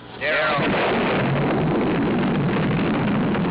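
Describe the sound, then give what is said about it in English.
A nuclear explosion in the famous Lyndon B. Johnson campaign ad, following a little girl counting down and pulling the leaves off a daisy, erupts abruptly into a loud, sustained roaring rumble that fills the whole recording, with a brief whistling sweep at the start and no voices. “Johnson ad with the little girl counting down and pulling the leaves off a daisy and then a nuclear explosion.”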